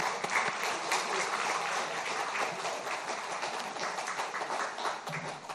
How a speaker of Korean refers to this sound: 하나님께 영광의 박수 올려드리겠습니다.